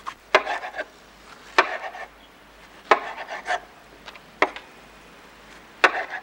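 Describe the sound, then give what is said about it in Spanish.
A knife chops through tomatoes on a cutting board to make gazpacho, with sharp, irregular knocks, each followed by soft wet slicing and scraping sounds, with no one speaking. “Lo bebe y corta tomates.”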